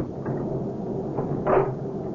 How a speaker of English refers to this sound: Honey, will you get the door closed and locked?